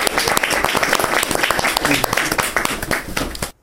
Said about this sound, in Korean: 네, 추억의 시기 단계라는 걸 예, 박수로 환영합시다.